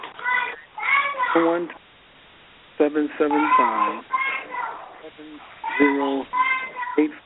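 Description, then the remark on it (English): A caller's children play in the background of a phone prayer line call. Their high-pitched voices shout, holler and scream in bursts, fairly loud, with a brief quiet gap midway. The sound is thin and band-limited over the phone line. “And then somebody got your kids playing there, hollering and screaming in the background.”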